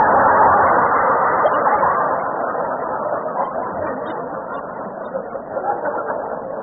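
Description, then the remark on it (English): A car engine runs steadily for several seconds while the car is being driven, a continuous loud mechanical rumble and whir that eases slightly in volume toward the end, with no talking over it. “You just drive the car.”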